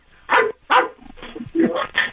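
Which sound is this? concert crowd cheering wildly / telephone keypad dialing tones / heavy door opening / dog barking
dog barking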